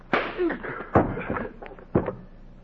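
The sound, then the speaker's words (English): A few sharp, heavy impacts: a solid smack of a punch, then thuds and scuffling as a man is knocked down to the floor, with a brief pause between the blows. “Jack, you didn't move. I knocked you down.”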